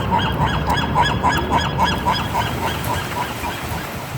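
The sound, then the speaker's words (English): Seagulls in Santa Barbara calling in a quick, steady series of harsh squawks, overlapping like a flock, over a continuous rushing background that could be surf. No one speaks. “Air hockey in Berlin, dogs in Naples, seagulls in Santa Barbara,”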